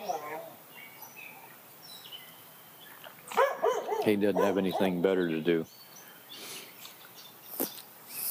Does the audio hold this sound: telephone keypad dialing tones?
no